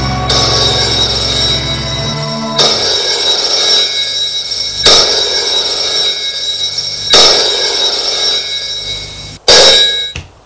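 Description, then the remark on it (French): A telephone rings in repeated bursts roughly every two seconds, a bright, metallic, high-pitched tone that stays steady between rings. No one speaks. “Le vendredi à 15h, le téléphone sonne.”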